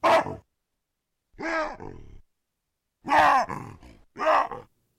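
Recorded vocalizations of wild baboons: harsh, throaty grunts and screams come in four loud bursts separated by short pauses, the calls rough and strained, rising and falling in pitch, with no talking.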